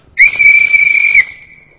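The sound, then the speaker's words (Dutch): A single sharp whistle blast, loud, held steady for about a second with a slight trill, then cutting off and fading quickly. No one speaks. “We moeten nog even op fluitje blazen.”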